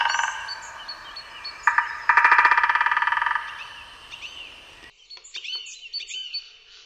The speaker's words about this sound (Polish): Werbel, czyli głos bębnienia, to jest zachowanie terytorialne, które polega na uderzaniu wybrany fragment drzewa dziobem z dużą częstotliwością.